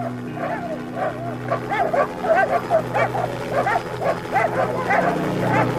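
Several dogs bark and yelp in rapid, overlapping bursts, loud, over a steady low mechanical hum that runs throughout.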